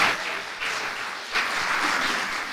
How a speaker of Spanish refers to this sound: Hay algunas personas que se aplaudan. ¿Quiere aplaudir? Apláudale al Rey.